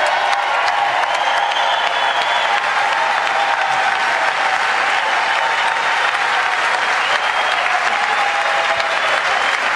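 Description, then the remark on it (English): Sustained, dense applause from a large crowd in the chamber for the President of the United States as he nears the dais, steady and loud throughout the whole stretch, with faint cheering mixed into the continuous clapping. “The applause is not...”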